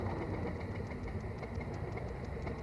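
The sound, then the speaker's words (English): A vintage car engine runs steadily after being restarted following a stall, a loud, rough, low rumble with a quick, even knocking pulse throughout and no voices. “We had stopped there and he got it going again.”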